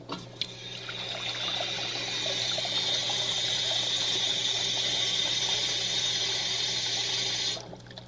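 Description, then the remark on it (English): Water splashes steadily in a bowl being readied for decorating eggs, for about seven seconds, fairly loud, with a continuous bright rushing quality before stopping abruptly. No one speaks. “A bowl with some water.”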